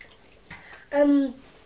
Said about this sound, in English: Oh, what a lot of hiccups. Do you like another sip of Mummy's water? Yeah. There you are then. Sometimes if you have a shock, that cures hiccups.